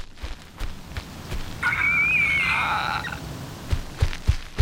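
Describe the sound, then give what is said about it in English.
A large eagle outside gives one drawn-out, warbling call lasting about two seconds, fairly clear, over a background of soft outdoor patter and scattered low thumps. “Right, okay, so it turns out I'm not going anywhere as there's a massive eagle out there.”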